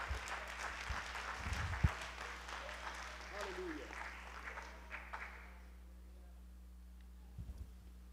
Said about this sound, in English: Please clap your hands as you're being seated. Clap them really long and really hard and really loud.